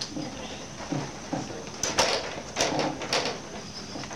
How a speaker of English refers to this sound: Can we just go around? Can we keep the door shut?